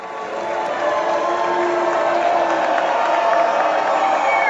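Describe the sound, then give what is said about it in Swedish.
A theatre audience at the Kennedy Center in Washington, at a performance of Les Misérables, roars in a steady, dense wash of booing, cheering and applause as Donald Trump and his wife Melania enter the auditorium, with whistles, whoops and shouts rising over continuous clapping at a constant loud level. “Donald Trump och hans fru Melania möttes av både burop och applåder när de gjorde entré i salongen på Kennedy Center.”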